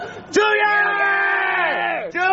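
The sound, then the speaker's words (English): Several voices scream loudly together in one long, sustained, strained yell lasting nearly two seconds, before cutting off abruptly. “Oh, we should scream.”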